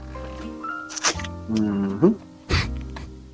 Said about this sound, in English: Mm-hmm. Good. Good gargle. Wonderful mouthfeel. Yeah. Crisp taste. With a hint of berry. Berry?